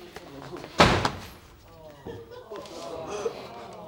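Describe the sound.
A door slams shut with a single loud bang as a woman leaves angrily, its echo fading quickly, and then voices start talking quietly afterward.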